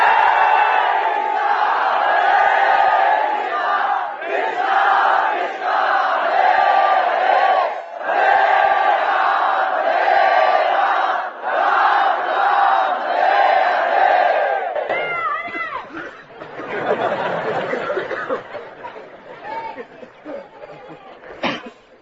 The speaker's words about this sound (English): But really, what is the use of your being 2,000 if you can't fill the entire universe with the loud chanting of the holy name?